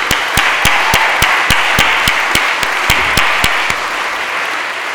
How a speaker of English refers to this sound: So can we just give them another round of applause?